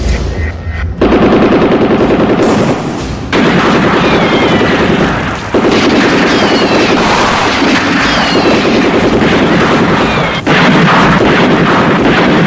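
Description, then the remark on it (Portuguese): Loud, sustained bursts of gunfire crackle almost continuously in Saturnino de Brito, rapid shots layered together with brief pauses between volleys, over a rough windy background. No one speaks. “Bala no Saturnino de Brito, tiro!”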